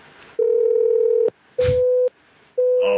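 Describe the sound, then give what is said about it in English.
A steady, fairly loud off-hook tone from a home phone left off the hook sounds in three long bursts separated by short gaps, with a brief rustle between the bursts and no one speaking. “Oh, it's a home phone. Now it's going to be off the hook.”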